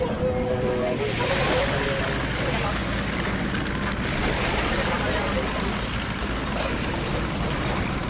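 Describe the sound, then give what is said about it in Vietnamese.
A Kiên Giang fisheries control patrol boat motors steadily across wide open sea at night in Vietnam, going out to inspect fishing boats; its engine drone mixed with rushing waves and wind buffeting the microphone, loud and continuous throughout. “Trời tối, vùng biển rộng làm cho việc tiếp cận tàu tốn nhiều thời gian.”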